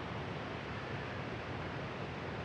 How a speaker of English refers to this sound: We are in a beautiful forest with an active waterfall behind us that you might be able to hear on the recording.